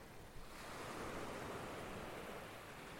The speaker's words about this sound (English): These very waves were recorded on an ebb tide in glorious sunshine on the afternoon of Thursday, the 12th of November, 2020.